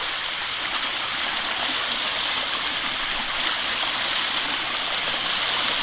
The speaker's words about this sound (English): Waves are coming into the shore now. My dog, Alau, likes to chase the waves, and she's running back and forth, chasing the waves as they crash on the shore, barking at them.